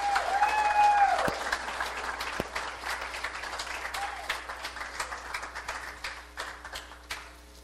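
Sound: audience round of applause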